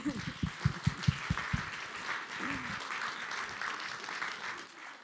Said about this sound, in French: Et donc, nous l'applaudissons très fort.